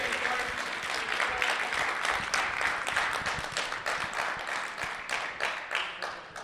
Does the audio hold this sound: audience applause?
yes